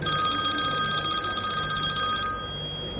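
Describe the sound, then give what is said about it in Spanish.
A telephone at a restaurant in Lleida rings with a rapid, trilling electronic bell, a steady high-pitched warble that continues for about two and a half seconds before cutting off, with no one speaking. It rings during a busy Wednesday midday menu service, as Christmas dinner bookings come in. “Esta llamada se produce con mucha frecuencia.”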